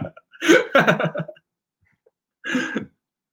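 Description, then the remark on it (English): A loud sneeze with a drawn-out breathy build into the burst, followed after a short pause by a second, briefer sneeze-like burst. “Bless you.”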